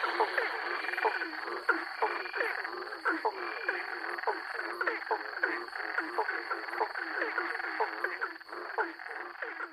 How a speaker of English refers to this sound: There are 11 species in this recording, and the bigger frogs have the deeper sound and the smaller frogs have the higher pitch sound